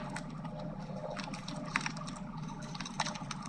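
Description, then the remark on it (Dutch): A voice imitates a printer feeding paper: a steady, monotone whirring hiss that runs the whole time, broken by two brief clicking accents, with no words spoken. “Dus die printen die is van die papier doorvoert en die losse dingetjes.”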